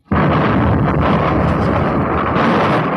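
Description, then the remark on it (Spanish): A loud explosion, another blast in a house full of explosive traps, bursts in abruptly and rolls on as a dense, heavy roar with deep rumbling that stays strong for several seconds, with no voices present. “¡Demonios! Se ha producido otro estallido.”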